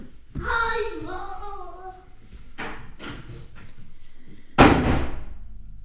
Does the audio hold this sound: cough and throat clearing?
no